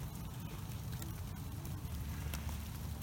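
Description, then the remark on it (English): Steady rain patters on a car, a continuous dense wash of drops with occasional sharper taps, heard from inside the car with no talking. “I didn't think it was going to rain again, like, at all.”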